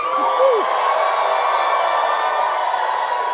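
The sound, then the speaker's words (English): A church audience, on the count of three, shouting to the Lord together in one loud, sustained roar of many voices that holds steady for several seconds, with a single voice whooping briefly near the start. “I just want you to give a shout to the Lord, okay?”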